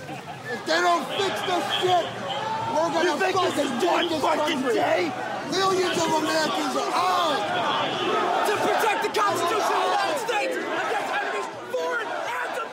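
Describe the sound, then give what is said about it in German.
A dense crowd of many voices, the mob forcing its way into the Capitol in Washington on January 6, shouts and clamors all at once, an agitated roar of overlapping yells with sharp cries rising above the steady din. “Wir hören hier Stimmen und Geschrei aus jenem Mob, der sich am 6. Januar dieses Jahres gewaltsam Zugang verschafft hatte zum Kapitol in Washington.”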